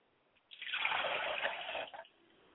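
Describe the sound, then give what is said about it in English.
Water is poured onto the ground as a libation to the ancestors, a steady splashing stream for about a second and a half that then tapers off with a few trailing drips. No one speaks. “I pour water to ground, so that as it falls upon the fertile ground, it will take root and then spring up and grow.”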